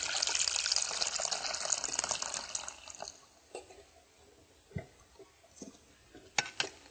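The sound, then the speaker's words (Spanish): Half a litre of water pours steadily into a cooking pot holding powdered soy milk for about three seconds with a bright rushing splash, then tapers off into scattered drips and light clinks. Fairly quiet, with no talking. “Más medio litro de agua.”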